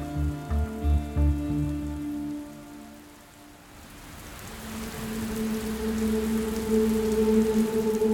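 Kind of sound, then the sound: nature, rain falling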